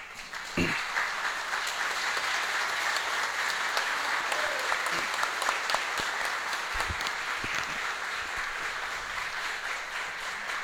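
Sustained audience applause at a ceremony as an honoree is called to the centre of the table, a dense, steady wash of many hands clapping at an even loudness for about ten seconds, with a few sharper individual claps standing out.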